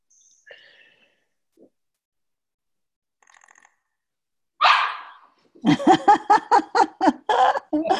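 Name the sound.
small dog barking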